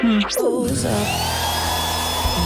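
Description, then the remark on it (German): A hair dryer switches on as someone dries their hair, its motor whine rising quickly in pitch before settling into a loud, steady whirring rush of air that continues without pause. “Die ist schon beim Föhnen drüben.”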